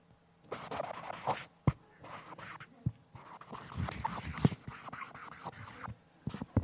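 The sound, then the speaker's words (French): Close-up scratching of a pen moving across paper as someone signs, quick looping strokes in bursts with brief lifts of the pen, loud and intimate with no voices. “Je vais mettre le micro sur le stylo comme ça, l'audio guide, ils sont contents.”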